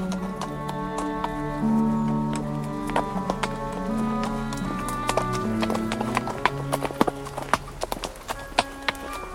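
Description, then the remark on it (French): Horse hooves clip-clop at a steady walking pace, crisp, over a sustained background of soft tonal music. “Son cheval n'était pas trop paysan et prenait également beaucoup de plaisir aux odeurs et aux lumières.”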